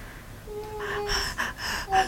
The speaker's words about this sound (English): Heavy breathing?